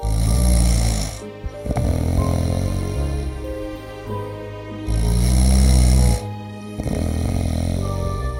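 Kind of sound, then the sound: sound effect, snoring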